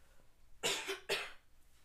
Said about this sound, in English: Anyways, one sec, I need to cough.